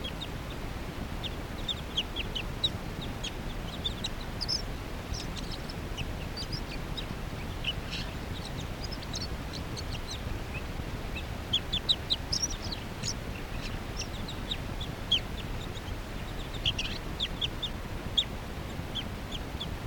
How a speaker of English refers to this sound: Oh, bird, stop. Recording that same bird.